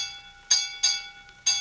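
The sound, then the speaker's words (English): A ship's bell aboard the Sybil Gray clangs three times in an uneven rhythm as the ship lies stopped, drifting in fog at night. Each bright metallic strike rings on over a steady resonant hum. There are no voices. “Silence all ship's bells.”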